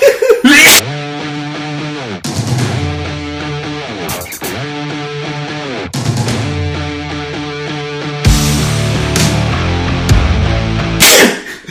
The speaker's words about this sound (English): You gotta sneeze for a longer duration.